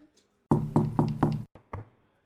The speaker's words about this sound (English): I want to slowly come up and slightly knock on the door and just put my big head through the door.